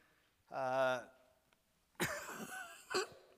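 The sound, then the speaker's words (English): A short voiced hum or groan is followed by a harsh, raspy burst of throat clearing and a sharp cough, fairly loud. “So I can quit coughing.”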